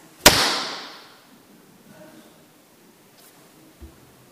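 A single sharp, loud bang from a race starting clapper, the signal to start running after a countdown, cracks out near the start and rings away over about a second, followed by near silence and one faint low thump.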